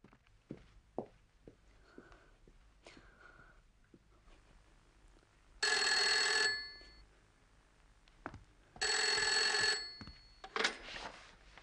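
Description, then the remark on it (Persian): A telephone rings in two loud, bright bursts about three seconds apart, each ring a dense electronic trill lasting around a second, with soft rustling and shuffling sounds in the quiet gaps. “اون تلفن لعنتی رو قطع کن.”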